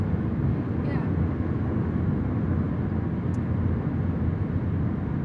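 Steady, dense low rumble of road noise heard from inside a car moving at 62, a constant droning roar with faint brief ticks, as the car crosses a bridge.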